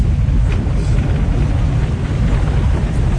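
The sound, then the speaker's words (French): Steady, loud low rumble of a car driving with its lights off, heard from inside the vehicle, with a radio playing inside and constant road and engine noise throughout, and no distinct voices or other sounds standing out. “Alors on est tout feu éteint, il y a juste Radio Globo qui marche dans la voiture.”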